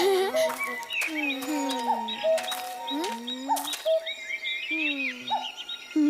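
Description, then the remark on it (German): A cuckoo calls amid a busy chorus of other birds, its hooting notes repeating every second or so over overlapping chirps, whistles and sweeping tones, all fairly loud with no talking. “Ein Kuckuck. Der kann seinen Namen selber sagen.”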